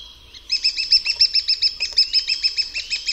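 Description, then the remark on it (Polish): A lesser spotted woodpecker calls a rapid, steady series of high, shrill 'kee-kee-kee' notes, about five per second, clear with no other sounds. “U dzięciołka natomiast mogą występować wyraźniejsze zmiany wysokości dźwięku. I znów dzięciołek.”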